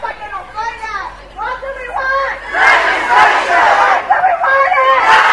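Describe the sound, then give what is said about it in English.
A crowd of over 500 marchers chants in unison in English and Spanish, including "Si se puede", while marching to the Illini Union, rhythmic shouted phrases rising and falling, loud and continuous, with voices overlapping into a steady roar. “The chants were both in English and Spanish.”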